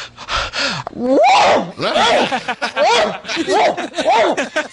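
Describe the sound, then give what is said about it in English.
A person loudly imitates their wife's harsh, bark-like sneeze, said to sound like a Doberman pinscher, repeating it four times in quick succession with no other talking. “No, here's my wife's sneeze. Here's exactly how she sneezes.”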